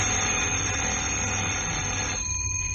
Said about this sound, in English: And then, 2 years later, on a windy April morning of 1939, a phone rang in Vine Street CID office.